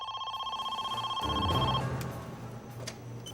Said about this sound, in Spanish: Más tarde esa noche sonó el teléfono.